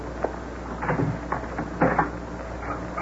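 door being opened

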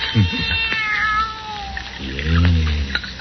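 kitten meowing

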